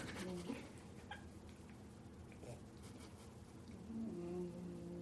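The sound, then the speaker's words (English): A pet snoring softly: low, raspy breaths rise at the start and again near the end, a steady quiet rumble between them, with no clear talking. “She's snoring. It's so cute.”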